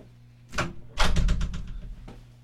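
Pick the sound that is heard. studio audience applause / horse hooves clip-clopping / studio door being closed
studio door being closed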